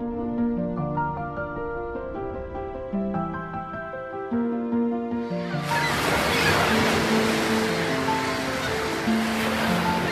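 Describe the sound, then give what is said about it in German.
Gentle, sustained music plays alone at first, then a loud roar of crashing ocean surf surges in halfway through and keeps churning beneath the continuing melody. “Doch zugleich aufbrausend, wild und zerstörerisch. So formt Wasser die Welt, in der wir leben.”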